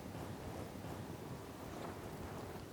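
Strong, steady wind roars and rushes without pause, a dense gusting howl of a dust storm in the middle of a desert, loud with no voices.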